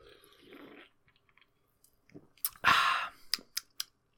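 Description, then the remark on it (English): A quick sip of Diet Summit Cola: a short slurping rush of drink followed by a few crisp wet clicks and gulps, with quiet mouth and handling noises beforehand. “Let's take a sip of my Diet Summit Cola.”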